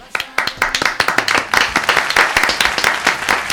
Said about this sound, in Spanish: Un aplauso, por favor.